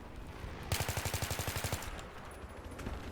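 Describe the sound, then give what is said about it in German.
A rapid burst of video game machine gun fire sprayed at a helicopter on the Caspian Border map, about a second long with roughly a dozen evenly spaced sharp shots, followed by a fading rattling tail, with no one talking. “Einfach mal auf den Heli sprayen.”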